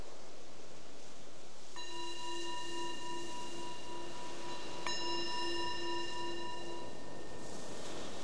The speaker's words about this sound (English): The bell is the invitation to transition from whatever you were doing to coming inward for this exploration.